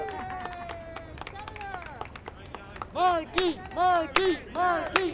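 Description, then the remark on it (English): A small crowd of supporters of Senator Ed Markey, greeting his campaign bus at Springfield's Union Station, claps in scattered, sharp bursts, then breaks into loud, repeated cheering shouts that swell and fall in a steady chant-like rhythm over the applause. “Just after noon Tuesday, Markey rolled up to Springfield's Union Station in his big campaign bus to greet a small crowd of supporters.”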